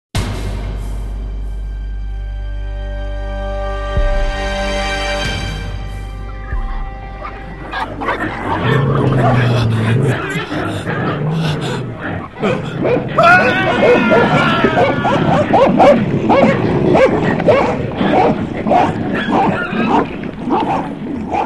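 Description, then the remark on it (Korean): After a low sustained droning tone, dogs erupt into loud snarling and barking while a man cries out in anguish, the frantic noise continuing without pause: dogs mauling a man as torture at night in 1953, the victim being Park Heon-yeong. “1953년 어느 날 개가 사람을 물어뜯는 소리와 한 인간의 처절한 울부짖음이 밤하늘을 갈랐다.”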